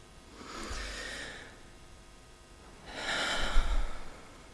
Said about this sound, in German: Atmen.